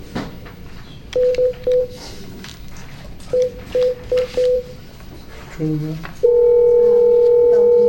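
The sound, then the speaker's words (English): Telephone keypad tones beep in quick groups of three and four as a call is dialed to an attorney during a Veterinary Board meeting, followed by a brief lower tone and then a loud, steady dial tone that holds to the end over faint background noise. “We're gonna get her attorney on the phone.”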